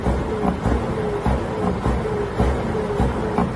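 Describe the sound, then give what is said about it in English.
A truck's engine revs in a loud, heavy rumble as the driver uses the air brakes in protest, with bursts of air-brake noise surging every second or so and a steady mid-pitched tone running through it. No voices. “So that's basically, apparently, a truck is using his air brakes and revving his engine, according to this report.”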